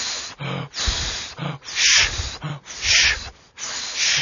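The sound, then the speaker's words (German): Rapid, forceful panting breaths, loud, with rough inhales and exhales alternating in a steady quick rhythm of about two per second, with no talking. Two men practise a special panting breathing technique meant to ease climbing to a high-altitude summit. “Hecheltraining.”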